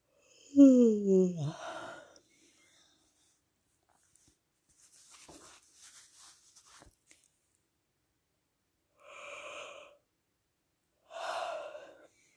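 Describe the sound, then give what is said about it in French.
A loud yawn opens with a voiced, sliding groan that drops in pitch. Quiet rustling follows, then two soft, breathy exhalations a few seconds apart. “Relevez les sourcils le plus haut possible et laissez venir le bâillement.”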